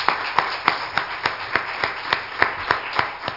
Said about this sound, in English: Let's give Him another hand clap of praise.